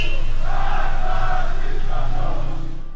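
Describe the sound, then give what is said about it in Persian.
Protesters chant slogans in unison in Sanandaj at 20-Metri Javadiyeh on Friday, 13 Aban 1401: a loud, sustained mass of shouting voices with rhythmic swells that fades slightly at the end. “جمعه 13 آبان 1401، 20 متری جوادیه، بچه‌ها دارن شعار میدن.”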